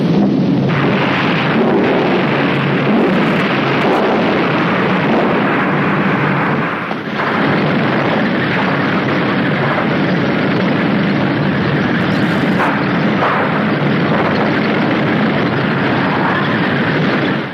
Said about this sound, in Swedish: Ett allierat plan träffas här av luftvärnseld och krossas i ett hav av flammor.